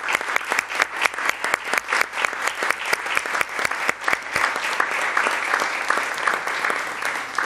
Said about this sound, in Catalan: Doncs agraïment públic a la Comissió Municipal de Festa Major 2023-24. Vots a favor? Aprovat per unanimitat. Moltes gràcies. Ara passem al... Un aplaudiment.